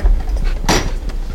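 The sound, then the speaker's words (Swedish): A kiosk door creaks open in one short, harsh scraping burst midway through, fairly loud over a steady low background rumble, with no voices. “Dörren går upp och en frän lukt slår emot oss.”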